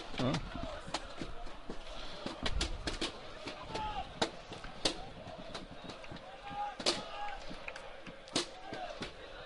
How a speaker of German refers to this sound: So, die ersten Ausschreitungen im Block, wenn er es hört, es knallt da heftig. Das sind keine Schüsse, das sind die Luftballons.